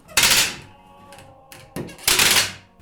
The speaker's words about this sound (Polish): Tu pod piecem grzewczym mamy kilka przedmiotów, które mają związek z tym świętem. Mamy tutaj takie przedmioty, które wydają ostre dźwięki. Teraz zademonstruję, jaki dźwięk wydaje tarapat.